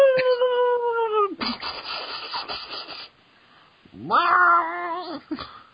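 A cat lets out long, drawn-out yowls, one sustained wail, a noisy scuffle, then a rising, strained second cry. Loud, with no talking.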